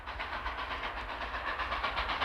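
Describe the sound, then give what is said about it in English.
A steady, rumbling rattle of a moving train, with wheels clacking over rail joints in a continuous rhythm, fairly loud with no voices. “We got very familiar with the clackety clackety clackety clack of the wheels, you know, and it was there all the time we were moving.”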